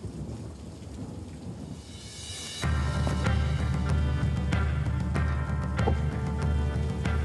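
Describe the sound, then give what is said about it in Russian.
Steady rain hisses throughout, and at about two and a half seconds a deep rumble of thunder rolls in loud, sustaining a heavy low roar over the downpour as a storm approaches. No one speaks. “На нас надвигается буря.”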